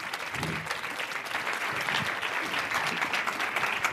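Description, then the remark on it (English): An audience applauds steadily as panelists are invited up onto a stage, a dense, continuous patter of many hands clapping at an even loudness throughout, with no one speaking over it. “Give them a round of applause and we'll do some introductions.”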